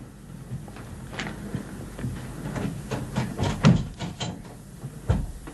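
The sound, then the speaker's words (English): A door is shut and bolted: a run of sharp wooden knocks and metallic rattles, growing busier toward the middle, then a final heavy low thud. No one speaks. “I'll go and bolt the door now.”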